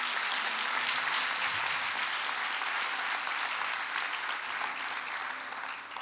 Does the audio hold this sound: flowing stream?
no